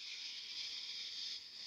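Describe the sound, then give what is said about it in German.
A steady, airy breath drawn in deeply through the nose into the belly during a breathing exercise, a soft continuous hiss lasting under two seconds and easing slightly near the end, with no talking. “Und dann atmen wir gemeinsam tief durch die Nase ein, bis in den Bauch.”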